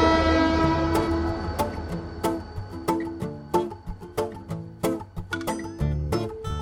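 A train pulls into a station on track 5 with a long, loud horn blast at first, then a steady run of rhythmic wheel clacks over a low rumble, without voices.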